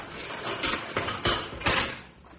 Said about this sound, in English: Open the cage door, Sam.